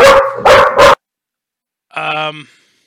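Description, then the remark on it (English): A dog named Matilda lets out three loud, quick barks in rapid succession, followed after a second of silence by a brief tonal voiced sound. “So when Matilda stops barking”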